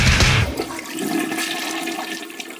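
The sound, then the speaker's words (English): A toilet flushes: a loud, gurgling whoosh of rushing water at the start, fading into a steady hiss and trickle as the bowl refills. “You're listening to 66.6 FM, Radio TOVH, The Flush.”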